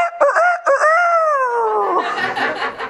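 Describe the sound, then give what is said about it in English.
A rooster crows once, loud, a drawn-out cock-a-doodle-doo with a rising start and a long wavering tail that breaks into a raspy finish. “while he's still cussing and denying Jesus, the rooster crowed”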